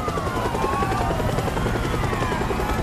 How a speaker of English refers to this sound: A helicopter touches down.